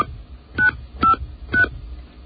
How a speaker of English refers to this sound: For the address of the store nearest you, press 1 now. That's what I want. Using the buttons on your touchtone phone, mm-hmm. please enter your 5-digit zip code now.